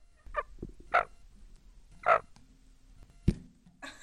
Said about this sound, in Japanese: 今くちばしでマイクをつついてくれた何ちゃんでしょうか。 ピーちゃんです。